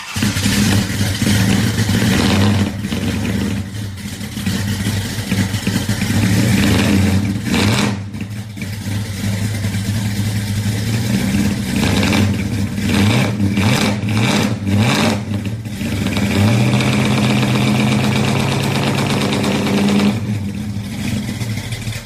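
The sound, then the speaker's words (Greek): The powerful engine of an orange 1969 Dodge Charger revs loudly and continuously, its deep rumble rising and falling through repeated throttle blips, with no voices. “το θρυλικό αυτοκίνητο των πρωταγωνιστών, ο γνωστός General Lee, ένα Dodge Charger του 1969”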